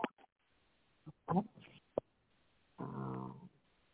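Several dogs that have just been put to bed bark in scattered, uneven bursts: a few sharp yips and barks, then a longer drawn-out whining howl, with brief quiet gaps between.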